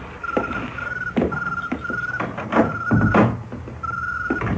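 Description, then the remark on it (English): A car door opens and shuts with a few solid thunks as a man gets out and opens the car door for a woman, the car parked in front of Cabana Numero 4, while a steady electronic chime beeps repeatedly in the background. No one speaks. “He gets out and opens the car door for the woman.”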